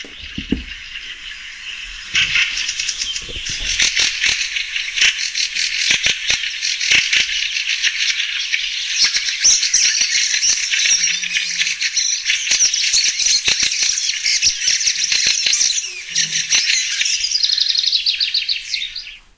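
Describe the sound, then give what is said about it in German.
A dense, continuous wall of chattering bird calls from a large colony, many overlapping high-pitched voices forming a steady din with rattling, clicking bursts throughout. No one speaks. “Naja, aber man hört auf jeden Fall, es ist viel los, wenn die da sind. Und man hört eher so eine Geräuschkulisse, ne?”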